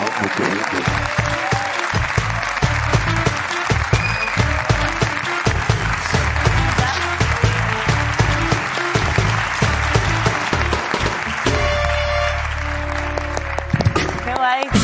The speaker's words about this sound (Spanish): Pido un aplauso para … en La Resistencia.